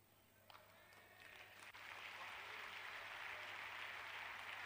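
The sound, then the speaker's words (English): An audience at a sermon breaks into applause, a few scattered claps at first swelling into steady, sustained clapping that holds at a moderate level to the end, with no voices over it. “No, you don't have to clap.”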